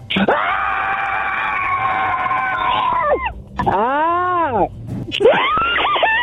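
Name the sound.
scream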